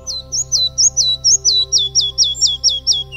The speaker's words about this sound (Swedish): Den här lilla flygsnapparen som ser ut som en flamma på grund av den orangea fläcken på bröstet, den lever i mogna bestånd, äter insekter. Kännetecknande är att man ofta lyfter svansen och slår med vingarna.